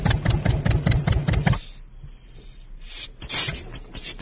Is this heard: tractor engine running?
yes